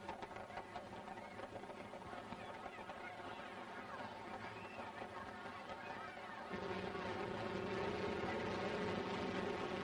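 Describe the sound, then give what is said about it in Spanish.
Spanish military airplanes drone steadily overhead in a flyover during a parade, a thick continuous engine roar with a layered hum that swells noticeably louder for the final few seconds. “Nuestros aparatos, vencedores en tantos combates, escriben en el aire con letras de aviones el grito que se escapa de todas las gargantas.”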